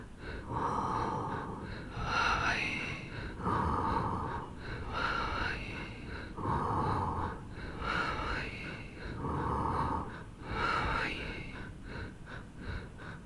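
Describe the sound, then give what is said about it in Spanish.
Slow, steady breaths alternate with a softly voiced, humming mantra chant, Om on the inhalation and Babaji on the exhalation, repeating in a regular rhythm about every two seconds, quiet. “Para una mayor comprensión de cómo se acopla el mantra a la respiración, voy a vocalizarlo.”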